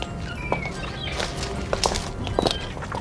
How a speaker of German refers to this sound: Am Touristenhafen stiegen sie aus und gingen zum Kai, um ein Boot zu mieten. Plötzlich näherten sich Schritte.